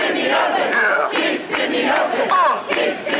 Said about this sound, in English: And in the years that followed their introduction, as venues began to close in Sydney's CBD, crowds gathered in protest.